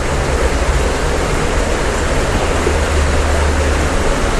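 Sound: flowing river water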